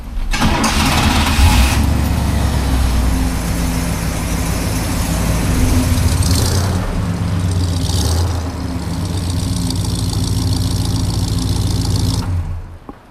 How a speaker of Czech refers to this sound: Oh, 1967 Pontiac Grand Prix convertible. Tak jdeme právě nastartovat Pontiac z roku 1967.